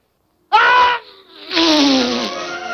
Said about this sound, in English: His sneeze stirs up gusting winds. It blows the other dwarfs across the room.